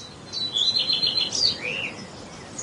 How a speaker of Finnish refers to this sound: Voitaisiko me myös pyytää, että meidän leikkaamme Henkka laittaisi ehkä ihan pikkasen jotain lintujen visarystä siihen taustalle, kun mä luen sen?